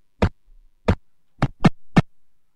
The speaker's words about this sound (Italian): Questi sono i calci al pallone. Sì, esatto. Sì, è molto monotono, sì. È molto drammatico.